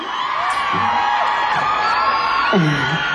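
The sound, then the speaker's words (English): A small crowd at a live music performance cheers and whoops steadily, with overlapping shouts and a few higher yells rising above a dense, loud wash of voices. “Yeah, I got my little crowd here.”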